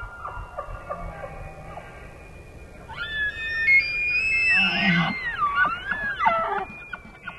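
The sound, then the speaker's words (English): An elk bugles, a high, eerie whistling call that swoops up and down in pitch for several seconds over a low, steady background rumble, with faint tonal notes before it. “It fills your entire body when an elk bugles.”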